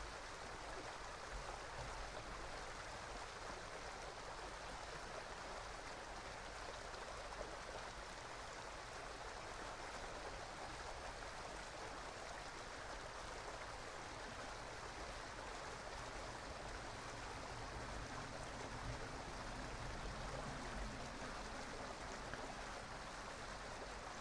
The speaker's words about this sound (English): Watching the stream of consciousness as shown to you by this beautiful mountain brook.